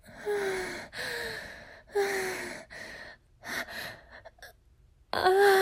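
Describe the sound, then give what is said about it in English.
A woman's breathy gasps and soft, voiced moans, fairly loud, coming in a rhythmic series of about half a dozen short bursts with quick pauses between. “I don't want to make these little moans. Those whimpers. Those gasps.”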